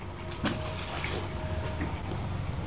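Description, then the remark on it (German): A message-in-a-bottle with its lid on is thrown into water with a single short splash, followed by a steady wash of moving water and faint trickling. No one speaks. “Und jetzt werfe ich sie mir ans Wasser.”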